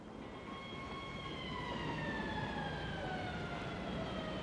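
A police boat siren wails steadily in the distance, its sustained tone slowly gliding downward over a broad wash of background rumble, with no voices present.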